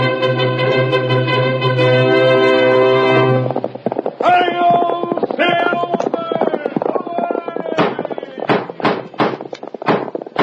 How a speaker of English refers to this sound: Horse with the speed of light, a cloud of dust, and a hearty hi-yo, Silver, the Lone Ranger.